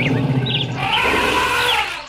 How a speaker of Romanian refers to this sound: Ce-i sunetul ăsta? S-aude elefanții. Îi vedeți? Sunt acolo lângă gard. Ăia mari? Ăia mari sunt elefanți?